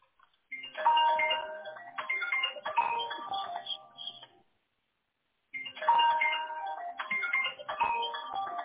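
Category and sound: signal or alarm, mobile phone ringing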